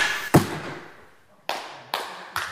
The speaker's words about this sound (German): Es folgen Minuten absoluten Schweigens und höchster Konzentration. Pfeile durchschlagen das über Holzbögen gespannte Papier der Zielscheiben.